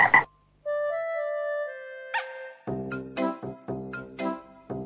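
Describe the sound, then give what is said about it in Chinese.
A frog croaks loudly, first with a sharp burst and a long droning tone, then a quick run of about six raspy, rhythmic croaks. “青蛙小弟睡午觉。”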